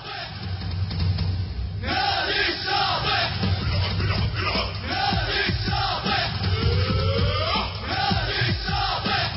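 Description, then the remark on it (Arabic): The supporters' association of Al-Shati football club chants and shouts together in rhythmic bursts while touring the Al-Shati camp to rally fans before a key relegation match, voices loud, with a low rumble of traffic or engines underneath. “رابطة الجماهير الآن تجوب مخيم الشاطئ من أجل حشد أكبر عدد ممكن من الجماهير للقاء الهام والمصير للغاية في تحديد هوية الهبوط”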